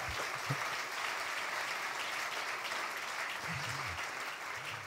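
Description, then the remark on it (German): A church audience claps steadily for several seconds for the youth worship team, a dense, even wash of hand claps with no pauses. A few faint voices or cheers rise briefly beneath it. “Als ich gerade jetzt hier unten saß und diese wunderbare Anbetungszeit, ich denke, wir dürfen Ihnen auch nochmal einen kräftigen Applaus geben, oder?”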